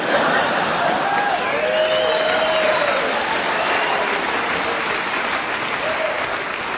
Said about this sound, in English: And those of you who didn't applaud, how bitter are you?